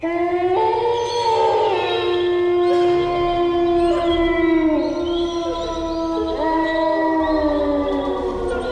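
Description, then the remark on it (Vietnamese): Wolves howl from inside a tomb in long, mournful overlapping tones that rise and fall, forming a sustained chorus that fills the whole stretch without pause. No one speaks. “Tiếng sói tru này lại có mấy phần thê lương như tiếng nghiệt kêu.”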